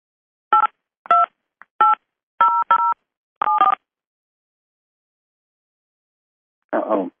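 Six or seven clear telephone keypad DTMF tones beep in an uneven sequence as a subscriber PIN is entered on a conference call line, each a short two-pitch electronic tone, followed after a pause by a brief automated-sounding voice.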